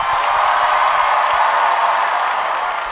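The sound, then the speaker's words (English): A large crowd in DC cheers and applauds as Senator Kirsten Gillibrand is welcomed. The noise is a steady, loud wash, with dense clapping and shouts blending together for the whole stretch without a break. “Look at this DC crowd. This crowd loves you.”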